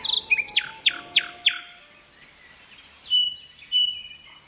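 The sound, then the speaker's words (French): A nightingale sings, opening with a rapid run of bright, descending whistled notes, then pausing before two shorter sharp phrases, with no voices present. “Le rossignol chante.”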